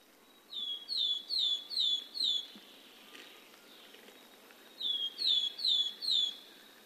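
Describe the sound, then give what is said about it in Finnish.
A willow tit calls two clear bursts of about five harsh, downward-slurred notes in quick even succession, separated by a short pause, over a quiet outdoor background with no voices. “nyt on viikon luontoäänen aika. Juha Laaksonen kertoo nyt hömötiaisen elämästä”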